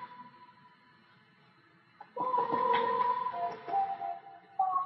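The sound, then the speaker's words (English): A steady electronic tone is followed by a louder burst of processed sound with heavy added reverb and echo effects, its tones smearing and repeating as they trail off, fairly loud. “And echo.”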